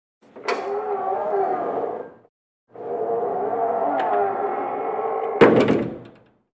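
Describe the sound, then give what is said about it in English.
A huge door opened by a very big woman creaks open in two long, loud, groaning stretches with a brief pause between, ending in a heavy wooden thud. “A very big woman opens the enormous door.”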